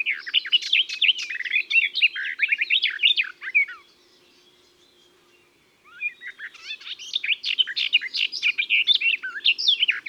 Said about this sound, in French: On pourrait confondre son chant avec celui de la fauvette à tête noire, mais la voix de la fauvette des jardins est plus grave. Et surtout, elle roule les airs, et c'est ce qui permet de l'identifier à coup sûr.